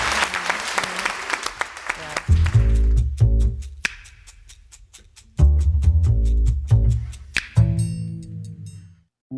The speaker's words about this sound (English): Beautiful. I think that was a round of applause.